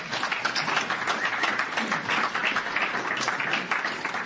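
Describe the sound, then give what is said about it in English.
A crowd applauds steadily, many hands clapping in a dense, even wash of sound that holds at a constant level for about four seconds with no voices over it. “I think we should all just applaud him to bug the shit out of him.”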